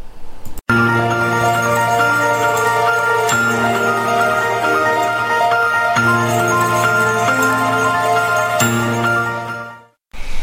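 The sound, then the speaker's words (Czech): A loud, bright Christmas radio jingle plays on its own: sustained chiming tones with shimmering bell accents that strike every few seconds, holding steady for about ten seconds before cutting off abruptly. “A nyní už slíbený vánoční jingle.”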